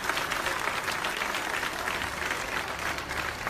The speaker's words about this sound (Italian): buonasera, benvenuti qui a Ponte Grande per questa serata di evangelizzazione. Lo facciamo un applauso? Ecco qua.